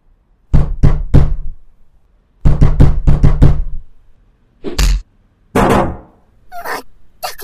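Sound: knocking on a door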